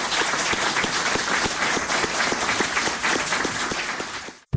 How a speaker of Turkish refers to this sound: Bir kuvvetli alkış rica ediyorum.